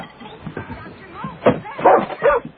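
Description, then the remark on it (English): A dog whines with high, wavering cries, then lets out several sharp barks, the barks growing louder toward the end. “You can cry yourself away from doggy heaven.”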